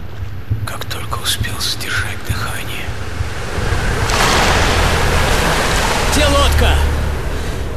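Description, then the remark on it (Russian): Steady wash of huge Atlantic Ocean waves around a small boat in total darkness, a broad hissing surge that swells louder halfway through and stays rough, with faint murmuring voices buried beneath and low wind rumble. “Потому что волн миллионы, а я один.”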